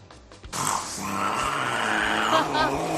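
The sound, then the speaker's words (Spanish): A cat lets out a long, loud, rasping yowl that rises and falls like a revving motorbike engine, sustained for a few seconds. “vamos a oír otra vez al gato que imita a una moto.”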